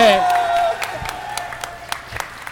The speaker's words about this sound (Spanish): Oye, yo quiero pedir también un aplauso